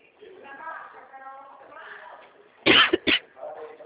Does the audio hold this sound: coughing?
yes